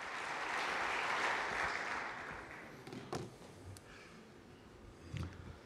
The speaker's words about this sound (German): Ein kleiner Applaus hilft zum Start sicher.